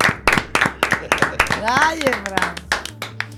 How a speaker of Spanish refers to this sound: Forte tamén ese aplauso